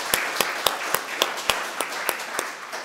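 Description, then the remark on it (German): A crowd applauds the band steadily, with a rhythmic pattern of sharp, evenly spaced claps standing out over a continuous wash of softer clapping, moderately loud, with no one talking. “Vielen Dank der Band. War ganz toll. Können wir mal klatschen.”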